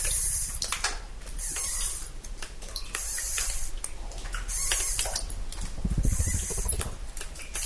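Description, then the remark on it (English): Bats, including big brown bats hanging in clusters from a cave ceiling, shuffle and stir as they wake from torpor, a steady scratchy rustling and patter with thin, high-pitched squeaks running throughout, moderately loud and with no talking. “If you look at like this little guy right here, starting to shuffle around a little bit.”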